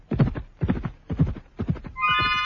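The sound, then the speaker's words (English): Great heavy horses gallop with a ponderous, earth-shaking gait, their hooves pounding in a steady, thudding rhythm of several loud beats. A horse's high whinny rises just as the hoofbeats fade. “They could keep it up for hours, that ponderous, earth-shaking gallop.”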